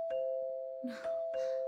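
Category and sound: household object, doorbell ringing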